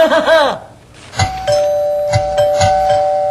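A doorbell rings with a steady, ringing mid-pitched tone that holds for a couple of seconds, punctuated by several sharp strikes, following a brief warbling sound at the start.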